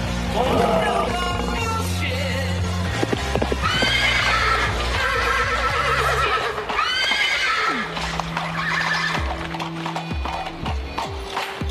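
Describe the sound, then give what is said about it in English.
Horses neigh and whinny loudly over a steady clatter of hooves on a cobblestone street, with repeated calls overlapping across the scene and a busy feel throughout. “There are horses in the street.”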